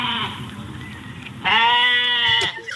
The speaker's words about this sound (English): Is that a goat? Yeah, it's my pet goat. Oh, how cute. Isn't he cute?